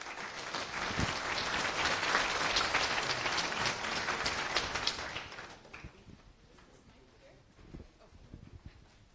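An audience applauds to welcome the next speakers of a lightning talk, clapping in a dense, steady burst for about five seconds, then the applause thins out to a few scattered claps and quiet shuffling.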